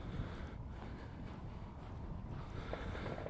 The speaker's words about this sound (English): That's quite windy, that, isn't it?